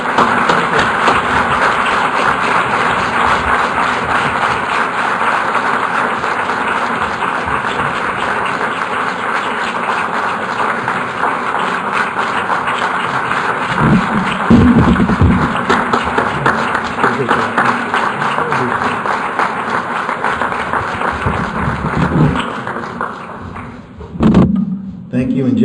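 An audience applauds in a dense, steady wash of clapping that holds for over twenty seconds before thinning out, with a few low thumps and murmurs near the end.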